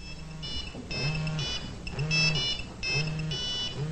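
A cell phone rings in a repeating electronic pattern, short bursts of high warbling tones about every half second, steady with no one speaking.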